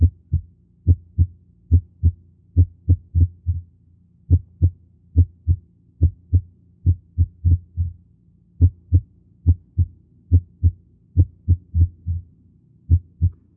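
Heart auscultation with premature ventricular contractions: low, thudding lub-dub beats in a steady rhythm, broken now and then by an early beat and a noticeable pause before the pattern resumes. No voices.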